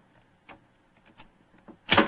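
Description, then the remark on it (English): A skeleton key rattles and clicks faintly in a lock a few times, then a louder, fuller clunk as the door unlocks and swings open. No one speaks. “Is the door locked? Yes, but I think the skeleton key will do the trick.”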